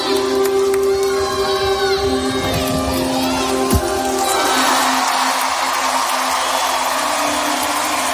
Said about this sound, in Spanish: Es la ovación que recibía Simone Biles en su reaparición en unos Juegos Olímpicos tras haberse retirado de los anteriores por problemas de salud mental.